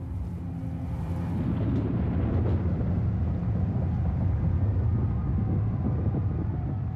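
A roaring storm wind over Switzerland rumbles steadily and loudly, dense low-frequency turbulence building in the first second and then holding a constant, blustery howl with no voices.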